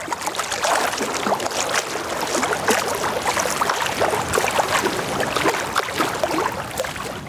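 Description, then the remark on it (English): Water splashes and churns continuously, like someone swimming, with a dense stream of small sloshes at a steady level for several seconds and no voices. “slowly lower all the way down to your belly. Splash! Let's swim!”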